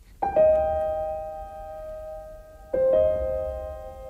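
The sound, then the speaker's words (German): A doorbell rings with a two-tone ding-dong chime, the first tone sustaining for over two seconds before a second, slightly lower tone strikes and rings out. Clear, with no talking. “So simpel kann Musik sein, das Geräusch einer Türglocke.”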